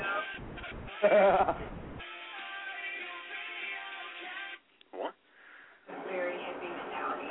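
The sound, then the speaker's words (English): A goat walking a dog bleats in long, wavering, nasal calls, a few in succession with short gaps between them, sounding somewhat muffled and thin, as if played back through a small speaker. “So go figure, you got a goat walking a dog.”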